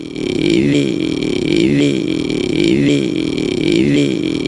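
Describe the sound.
A voice imitates an idling rally car, a loud, continuous rumbling drone with rhythmic pulses and repeating upward-sweeping swells about once per second, alone without words.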